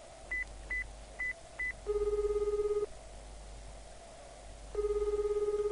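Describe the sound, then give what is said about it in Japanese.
Four quick keypad beeps as a mobile phone number is dialed to call a sister at about 2 p.m., followed by two long buzzing ringback tones separated by a pause, heard alone over a faint steady hum. “携帯をかけると数回の呼び出し音の後妹が出た。”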